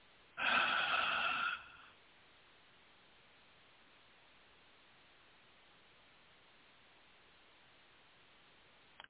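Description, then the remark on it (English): A single deep breath, fairly loud, drawn for about a second, followed by a long stretch of faint steady hiss with no voices. “breathing with you.”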